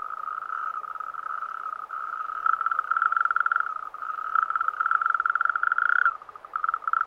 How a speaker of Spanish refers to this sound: Un sapo corredor.